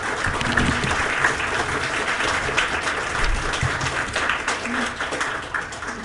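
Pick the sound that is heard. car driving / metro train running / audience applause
audience applause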